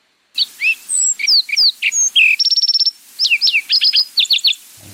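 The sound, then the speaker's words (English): A sparrow sings a rapid, complex song at normal speed: clear whistled notes, a fast buzzy trill in the middle, then quick repeated chirps, loud with no talking. “So again, here's the Mark Sparrow at normal speed.”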